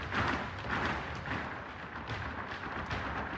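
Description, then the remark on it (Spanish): An audience applauds the candidates by stamping their heels in a dense, rumbling, continuous patter of thuds, loud, filling the whole stretch with a steady drumming roar. “Después, un aplauso versión taconeo.”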